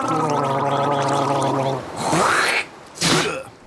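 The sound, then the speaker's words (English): Someone gargling with salt water makes a throaty, voiced gargle that bubbles steadily for about two seconds, then gives way to two harsh, hissing sputters, like liquid being spat out. “Quick, everyone, gargle with salt water.”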